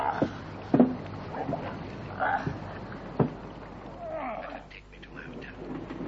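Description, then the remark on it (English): Water sloshes and laps around a small boat, with creaks and knocks of the hull, a busy low rumble of movement on the water and some indistinct voices in the background. “Just another boat”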